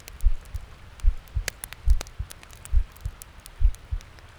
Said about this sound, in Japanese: ねえ、聞こえる？ドキドキしてるでしょ？鼓動って落ち着くんだって。